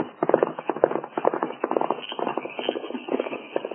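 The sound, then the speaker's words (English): Steady clip-clop of a limping pony's hooves on hard ground as it is ridden off, a continuous run of hoofbeats in an uneven rhythm, sounding slightly muffled, with no voices. “His pony is limping.”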